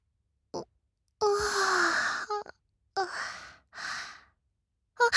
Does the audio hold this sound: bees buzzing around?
no